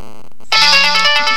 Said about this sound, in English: Now, is it me or does this phone kind of seem quieter than it was? Okay. Now it's calling me again.